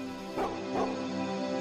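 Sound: dogs barking and yipping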